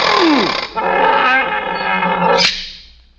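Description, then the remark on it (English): A loud lion roar, a raspy sustained bellow lasting about three seconds with a sharp swell near the end before it fades away. “You just walk over to the lion and take your two hands and you open his mouth like this.”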